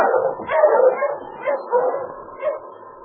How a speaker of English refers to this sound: heard a dog team stopping outside the cabin.